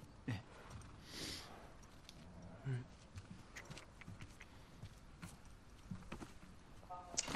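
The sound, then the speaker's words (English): A horse's hooves clip-clop at a walking pace in a video game, the sharp knocking steps moderately loud, with a murmur of voices or game noise underneath. “I like the fact that when you're walking the controller vibrates as well as you walk.”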